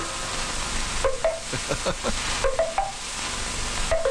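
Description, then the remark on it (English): A Maxwell House coffee pot percolating in a TV commercial for Maxwell House Coffee: irregular bubbling plops with short rising gurgles over a steady hiss, the bursts coming in uneven clusters. No one speaks. “Listen to the sound of the Maxwell House coffee pot at work.”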